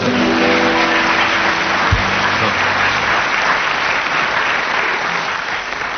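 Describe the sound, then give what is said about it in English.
An audience applauds Tim Brooke Taylor steadily for about six seconds, a dense, even wash of clapping with a low hum underneath and a brief low thump near the start, tapering slightly at the end. “Let's have a round of applause for Tim Brooke Taylor.”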